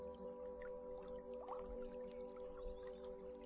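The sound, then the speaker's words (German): Singing bowls hum with steady, overlapping tones that sustain throughout, layered over soft trickling, watery sounds. No one speaks. “Die Musik der Klangschalen unterstützt mich.”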